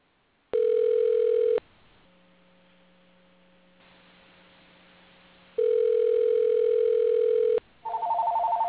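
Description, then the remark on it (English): A loud, steady telephone tone sounds in two long bursts separated by a few seconds of low electrical hum, as a call is placed to a woman; no one speaks. “I'm going to see if I can get her on the phone, and I'm going to put my mic on mute here for a second, and scream for her to answer the phone.”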